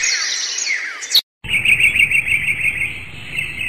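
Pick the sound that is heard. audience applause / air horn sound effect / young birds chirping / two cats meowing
young birds chirping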